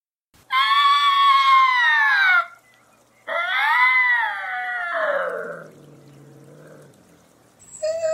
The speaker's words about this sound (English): I found this sample of a bobcat scream on the internet, and I'm going to play it. A warning to sensitive listeners, it's a little jarring.